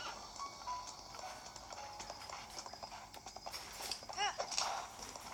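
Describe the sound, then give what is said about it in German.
A horse's hooves clip-clop in a quick, steady rhythm over a busy background, moderately loud, with a short high-pitched whinny near the end. “Pferd!”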